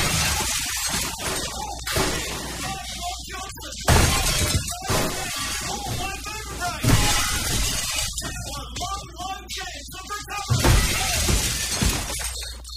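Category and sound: sound effect, glass door shattering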